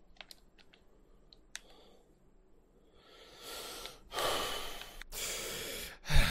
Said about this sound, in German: Das Schnaufen ist auch da.